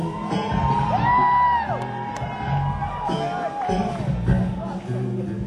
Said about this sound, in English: round of applause tonight.